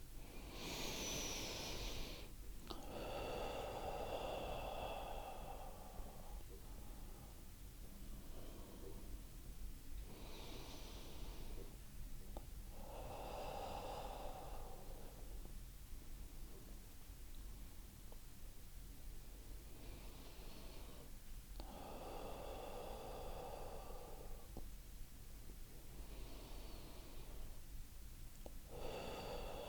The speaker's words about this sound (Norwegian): Og så starter I med at tage en dyb vejrtrækning ind igennem næsen og puste langsomt ud gennem munden.